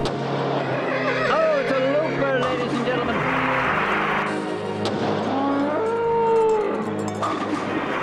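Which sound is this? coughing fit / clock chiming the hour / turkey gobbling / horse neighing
horse neighing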